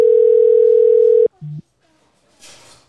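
A telephone ringing tone from an outgoing call: one loud, steady electronic tone holds for over a second and cuts off, a short lower beep follows, then a faint burst of muffled voice-like sound as the call is forwarded to an automatic voice messaging system.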